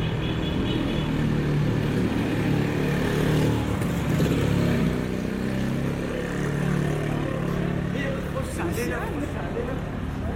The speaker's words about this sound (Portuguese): Não é só pedonal, carros e motos também podem passar aqui.